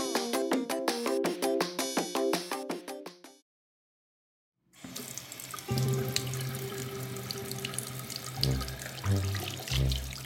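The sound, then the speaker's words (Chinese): A brief bright piano-like melody gives way to a pause, then water starts running steadily, a continuous hiss like a shower spray pouring down from above, with a low hum underneath. “好舒服的感觉哦，风徐徐的吹来，淋浴的感觉也好清凉，这就是离开家的感觉吗？”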